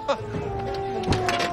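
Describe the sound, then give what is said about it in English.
A man opens the door of a dirty car for a woman, with a sharp latch click, followed a second later by a duller mechanical clunk, over a steady low engine-like hum. “He opens the door for her.”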